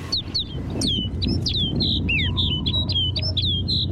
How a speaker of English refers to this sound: Now it's clear that rolling white cloud isn't snow at all, but a flock of snow buntings. These birds bring the barren landscape to life.